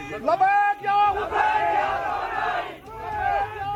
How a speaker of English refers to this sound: He apologized to angry protesters on behalf of his subordinate. He also raised the photo of Lieutenant General Qasem Soleimani and the leader of the Islamic Republic, Ayatollah Sayyid Ali Khamenei, as the crowd were heard and seen chanting slogans.